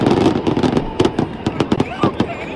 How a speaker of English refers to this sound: Fireworks go off inside a crowd as you see people disperse all over the place. They're in a stadium in Utah.